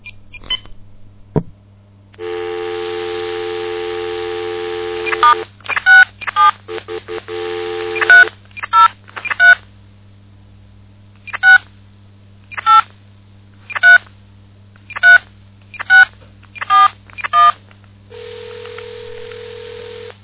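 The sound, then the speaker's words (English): A phone line opens with a steady dial tone, then a rapid burst of touch-tone beeps followed by about ten evenly spaced single dialing tones, ending in a brief hum, as a call is placed to a Walmart store in Highlands Ranch. Clear, no voices. “We're going to go ahead and call the Walmart”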